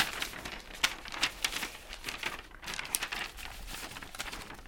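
Stiff paper of old promissory notes written in Russian rustles and crinkles in a run of crisp, irregular bursts as the sheets are shifted and handled, with no voices over it.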